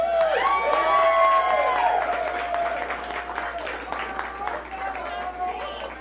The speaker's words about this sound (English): To put on an event like this is the most thankless thing in the whole wide world. The people who put this thing together deserve way more credit than they deserve. Let's clap for them.